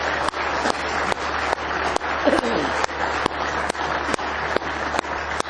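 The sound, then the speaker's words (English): An audience at a Sunday morning church service claps their hands in praise, a dense, steady wash of applause with sharper claps landing at an even beat, roughly two or three per second, for several seconds. “Him a good hand clap of praise this morning.”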